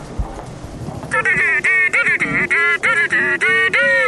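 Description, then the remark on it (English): A mobile phone ringtone, one of the phone's three ringtones, plays a fast run of loud, buzzy, honk-like tones in short repeated bursts with bright harmonics, starting after a brief quiet moment with no talking. “It's got three ringtones. That's the name for the ring. There's this one, right?”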